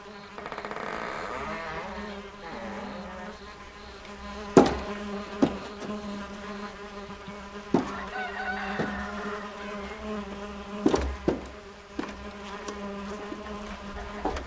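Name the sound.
swarm of flies buzzing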